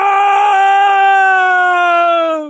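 A single loud, sustained scream from the Sea Lord as his neck is bitten, holding one piercing, strained pitch for over two seconds, sliding gradually lower before cutting off, with no other sounds.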